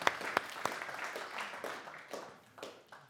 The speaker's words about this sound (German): Danke dir. Gib einen kurzen Applaus, denke ich.